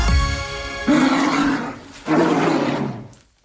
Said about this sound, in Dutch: Dat was een ijsbeer. Dat is een ijsbeer, hè?